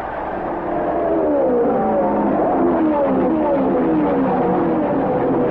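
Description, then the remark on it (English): A dense, sustained roar of many race car engines revving together at the start of a race as the pace car pulls into the pits, rising and shifting in pitch as the pack accelerates, loud and continuous with no voices. “After the traditional parade and pace laps, bringing the cars up to speed in starting order, the pace car pulls into the pits, and the race is off.”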